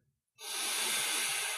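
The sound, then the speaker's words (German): A deep, steady inhalation through the nose during a breathing exercise, starting abruptly after a brief silence and continuing as a sustained airy rush, clear with no talking. “Nase atmet ein in deine Mitte”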